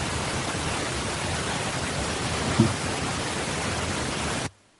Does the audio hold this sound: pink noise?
yes